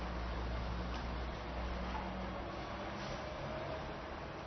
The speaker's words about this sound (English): There were always big trucks have to go by. Well, you know, when I used to teach at Camp Shoshana, these logging trucks would go by. So you would hear that on the tape. So we got our own version here.